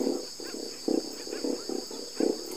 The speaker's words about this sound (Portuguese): todos peixes que se comunicam através de ondas sonoras embaixo d'água e com sons que às vezes dá para ouvir até na superfície, como esse ronco aí, essa sinfonia das corvinas. Tá dando para ouvir? Pois é, esse som aí a gente captou de cima do barco.